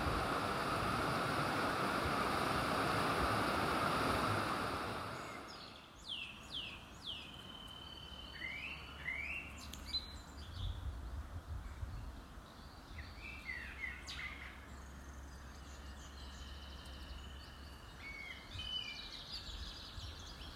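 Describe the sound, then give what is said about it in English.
Varied bird songs and chirps ring out over a steady rush of flowing water from the River Wharfe, with a louder burst of water noise at the start before the songs become clear and continuous. “The birds never cease to amaze me at this time of year.”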